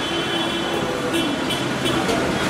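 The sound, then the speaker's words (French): Loud, unbroken din of a busy factory floor full of working employees: a dense wash of machinery noise with a steady low hum and a thin high whine, punctuated by a few brief hissing bursts. “C'est assez impressionnant le bruit.”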